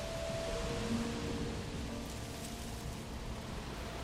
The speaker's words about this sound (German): Ein Sturm zieht auf. Es riecht nach Regen. Wie wild sie rauschen, die Bäume.